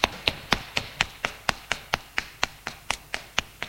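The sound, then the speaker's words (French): Quick, evenly spaced footsteps of a person hurrying down the stairs of an apartment building, about sixteen sharp hard-soled taps in under four seconds, fairly loud with no voices. “Descend les escaliers en vitesse.”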